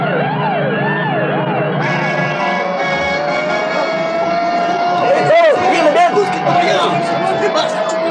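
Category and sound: vehicle, police car sirens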